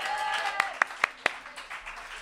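Applause from an audience: four sharp, evenly spaced claps stand out over a dense, steady background of crowd noise, then fade after about a second.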